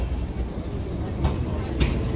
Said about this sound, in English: Soviet era tram right there.